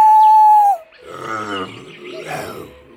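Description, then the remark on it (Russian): A loud, sustained wolf howl holds one steady pitch before dropping off abruptly, followed by a couple of seconds of lower, rough growling and grunting sounds. “Волк!”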